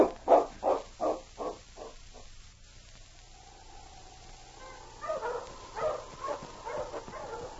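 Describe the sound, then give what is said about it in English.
A dog barks in a quick run of six or so sharp barks, lets out a long wavering howl, then resumes barking over a steady background hiss. “We'll get the dogs and start on this trail.”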